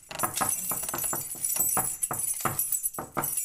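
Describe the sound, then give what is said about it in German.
An old wooden floor knocks and creaks under a steady run of footsteps, about two or three per second, while a bunch of keys jingles brightly over the top, at the front door of an apartment. “Ein quietschender alter Holzboden, ein Schlüsselbund und die Wohnungstür ist hier.”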